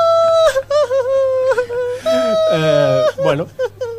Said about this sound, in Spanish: Un francés. Un francés. Ha perdido y llora. Bueno, como siempre. Anda, que. A ver, escuchémoslo. Está llorando, le está reculando.